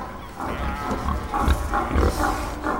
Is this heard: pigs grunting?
yes